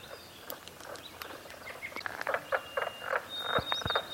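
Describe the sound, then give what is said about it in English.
A chorus of mink frogs gives sharp, wooden tapping calls in irregular clusters, with a thin high bird song threading faintly through the background. “I've always called them carpenter frogs, which is just kind of a name that I remember because they sound like tapping. But actually they're mink frogs.”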